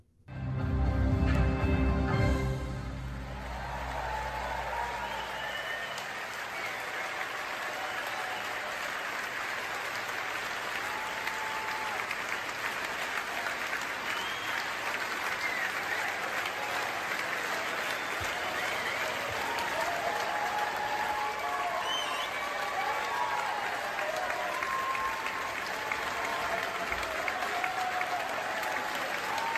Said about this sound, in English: This standing ovation in the theater there in Tel Aviv.